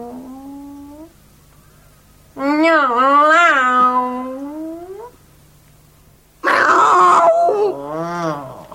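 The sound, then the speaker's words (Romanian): A cat meows several times: a short call, then a long, wavering, drawn-out meow, and after a pause a harsher, strained yowl. The meows are loud, with nothing else around them. “Acum, Miorlăie, vreau. Nu așa.”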